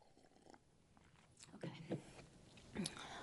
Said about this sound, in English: All right, so maybe I'll pause for a sip of water and then continue.